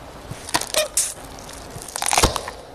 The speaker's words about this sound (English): Yeah, that avo pip in the middle crunching the last bit. Can you hear it coming closer and closer and closer?